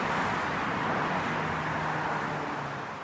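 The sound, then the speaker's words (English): A steady, dense roar of city traffic with a low engine hum running underneath, fairly loud and continuous, fading slightly toward the end, with no voices. “But average city traffic, 80 decibels.”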